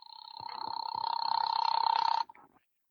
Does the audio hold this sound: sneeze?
no